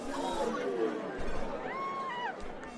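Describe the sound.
Steady crowd chatter fills Andy Capp's Tavern, a beer hall in Sunnyvale, California, where a crowd plays the early arcade game Pong; many overlapping voices murmur at a constant level, with a brief sustained tone rising over the babble near the end.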